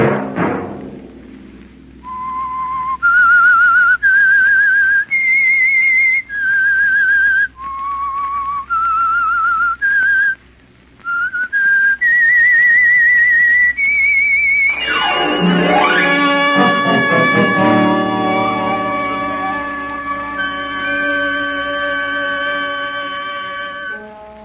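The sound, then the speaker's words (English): The whistled theme melody of the radio show The Whistler: clear, separate held notes rising and falling over a low steady hum, then a loud full orchestral chord swells in and sustains to the end. “Monday at 9 o'clock, the Whistler will bring you another strange tale.”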